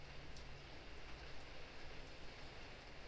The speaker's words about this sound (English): Or maybe the city water is rushing along the side of the sidewalk, down through the drains. Whatever it is, this rain has brought change.